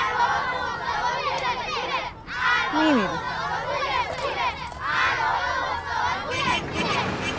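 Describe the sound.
A crowd of children shouting and chattering all at once, loud, with excited high voices overlapping continuously for several seconds and a brief dip near the middle, as a Paykan pickup truck carrying many children in the back arrives and the children get out.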